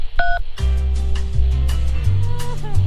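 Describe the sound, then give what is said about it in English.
A single short telephone keypad tone on a call to the Tasmanian Coastal Council's phone menu, a steady dual-pitched beep, sounds alone before tinny on-hold music starts up and continues. “To register to kick the footy, throw a frisbee, or bring a cricket bat to the beach, press 3.”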